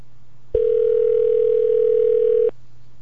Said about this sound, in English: And we'll put this on air. I know it's going to be a recording, so that'll be a lot easier to handle. This is the first time we've made a live phone call on the air.